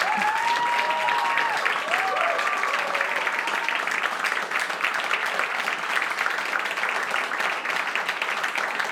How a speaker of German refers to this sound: Bitte einen riesengroßen Applaus für den Delfin, für die Krähe, für das Wildschwein und für die Döhle.